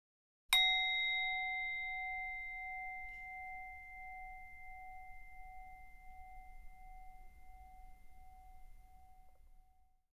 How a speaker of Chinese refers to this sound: 当我们听到钟声响起，我们便开始这个练习。